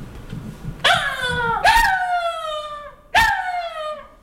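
Three loud, high-pitched jackal yelps ring out, barking rather than howling like wolves, each starting sharply and sliding downward in pitch before trailing off, with a brief pause before the last one. No one speaks.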